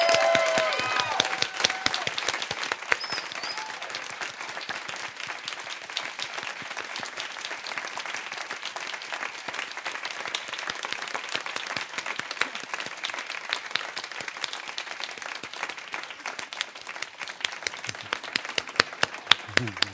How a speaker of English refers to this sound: First of all, I want to hear the loudest applause you're capable of